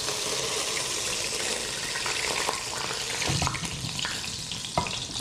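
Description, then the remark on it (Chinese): Steady sizzling and crackling of duck pieces pan-frying in a hot pan until golden brown, a continuous hiss with occasional louder pops and scraping, fairly loud, no voices. “鸭子呢，我们把它煎到像这样焦黄，好，上了颜色以后呢，好，就可以来做下一个动作。”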